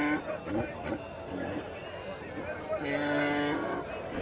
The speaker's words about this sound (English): Nearby, there's a hillside covered with domestic animals and their handlers, and a brisk trade is underway as herders replenish their supply of sheep, goats, and donkeys.